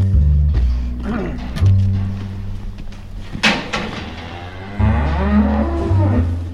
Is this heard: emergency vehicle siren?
no